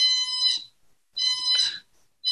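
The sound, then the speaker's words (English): A shrill, high-pitched electronic alarm from a Pronox nitrous oxide machine, which suddenly started whistling, sounds in repeated bursts of about half a second, separated by short gaps, loud with no voices. “That's my Pronox machine. It all of a sudden just started like whistling.”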